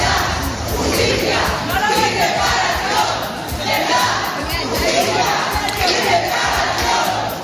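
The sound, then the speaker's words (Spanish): A crowd of protesters chants and shouts in unison the slogan "Verdad, Justicia y Reparación" (Truth, Justice and Reparation), interrupting the reading of the final manifesto at a public apology event; a loud, continuous wall of voices with a rhythmic, repeated cadence filling the whole space. “Bajo el grito Verdad, Justicia y Reparación han rechazado esta petición pública de perdón, interrumpiendo la lectura del manifiesto final.”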